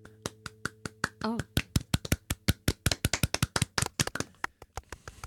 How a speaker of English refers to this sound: The applause goes to you.